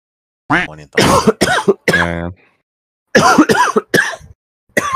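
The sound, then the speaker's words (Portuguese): A loud series of coughs and raspy throat clearing in two bursts separated by a brief pause, with harsh, rough, voiced hacking and no speech. “Eita, esse vai ser delicioso, que eu vou ter que cortar um monte de tossida minha.”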